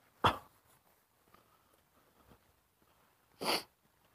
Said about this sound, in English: dog in a harness, talk, talk, talk, talk, talk. Flop-eared dog. Trot, trot, trot, his ears flapping. Happy dog, he's got something to sniff.